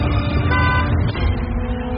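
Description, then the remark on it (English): A Tesla car horn honks once, a brief steady tone rising over a continuous low rumble of vehicle noise, with no one speaking. “I think it was your Tesla honking.”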